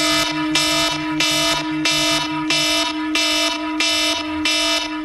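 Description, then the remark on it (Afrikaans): An alarm clock, the first one played on the Good Morning Breakfast show, rings with loud, harsh electronic beeping in steady repeated bursts, about six pulses over five seconds, piercing with no talking. “hierdie oukie, dit is my eerste wekker.”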